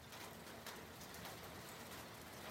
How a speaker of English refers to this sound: It was raining that day.